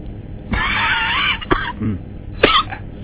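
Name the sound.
coughing and throat clearing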